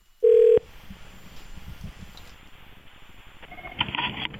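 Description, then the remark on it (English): A telephone call being placed: a brief, loud steady beep, then a stretch of hissy line noise, and a burst of ringing tones near the end. No one speaks. “Okay, let's get her on the line.”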